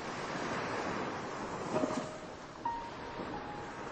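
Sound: ocean waves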